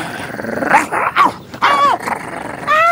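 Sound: dog growling and barking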